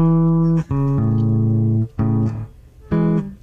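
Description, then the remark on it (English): A bassist plays the opening of the national anthem on bass guitar: a few sustained low notes, one after another, loud and clean with nothing else in the background. “Here's the beginning of the national anthem”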